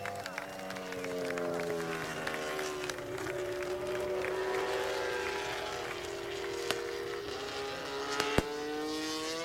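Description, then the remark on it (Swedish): Motorcycle racing engines drone steadily in the foreground as MotoGP riders wave on their victory lap at the Assen circuit in the Netherlands. The grandstand crowd stands, applauds and cheers throughout and sets off some fireworks, with a couple of sharp pops cutting through near the end. “De vinkar till publiken och publiken reser sig upp, applåderar, saluterar och till och med skjuter lite fyrverkerier.”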